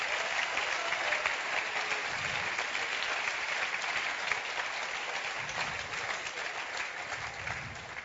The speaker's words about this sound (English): Komm, lass uns hier mal einen Applaus geben. Come on, dafür. Let's give a great cheer to Jesus.